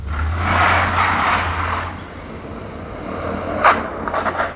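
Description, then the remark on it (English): A car engine revs steadily while its tires whine and spin for traction as it starts on a snow-packed street in a quiet Riverton neighborhood, with a low rumble underneath and a few sharper scrapes near the end, fairly loud. “A car spins to a start on a snow-packed street in a quiet Riverton neighborhood.”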